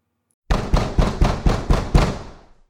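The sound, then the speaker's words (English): Six heavy, evenly spaced bangs as a man pounds on the wooden front door of a bookshop at dusk, loud, each thud booming with a short ringing decay before silence returns. “He marched up the front steps and banged on the door fit to knock it down.”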